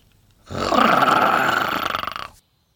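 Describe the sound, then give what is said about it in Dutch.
Pluto the dog growls once at a chick, a rough, raspy snarl held for about two seconds that starts abruptly, stays loud, then flutters and breaks up before cutting off. No voices or other sounds. “Maar Pluto gromt naar hem, zo gemeen als hij maar kan.”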